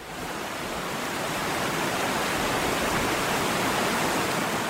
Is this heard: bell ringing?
no